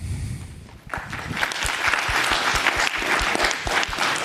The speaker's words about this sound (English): Maybe clap your hands if you agree.